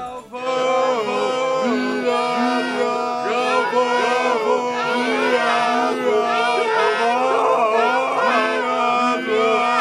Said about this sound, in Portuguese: A torcida tá animada, você ouviu, Arnaldo? O pessoal gritando